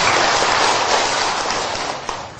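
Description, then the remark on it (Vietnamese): An audience claps steadily for a woman called up to the MC podium, a dense, loud wash of applause that holds throughout and tapers slightly toward the end, with no voices over it. “Rồi xin một tràng pháo tay tặng cho cô.”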